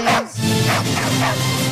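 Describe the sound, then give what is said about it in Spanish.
A dog barks three times at an even pace, each bark short, over a steady low hum. “¿se ha colado un perro?”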